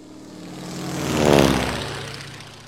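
A propeller airplane engine drones steadily, swelling louder as it passes by around the middle, then fading again, with no talking.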